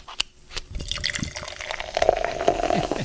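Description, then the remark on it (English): A 20-ounce Pepsi Mango is poured into a glass: a steady splashing stream whose tone rises as it fills, with crackling fizz and a few sharp clicks at the start. No one speaks. “Wow, that is some fizz, yo.”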